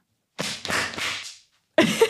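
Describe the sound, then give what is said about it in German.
Sharp hand slaps as a person whips against their own hand to imitate a whip crack for a jingle: a quick cluster of cracking hits followed by another after a short pause. “Warte, ich habe mich jetzt gerade nur gegen meine Hand gepeitscht.”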